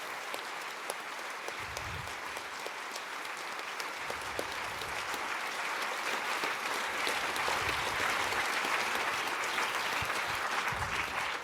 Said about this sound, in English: So I would appreciate a lot of applause for all the working angels that helped and will still helping to tear down this event.